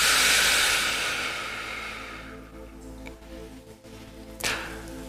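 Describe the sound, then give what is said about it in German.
A long, deep breath, loud at first and fading over a couple of seconds, then a shorter breath near the end, taken during a guided relaxation exercise with soft sustained relaxation music underneath. “Wir atmen nochmal tief durch.”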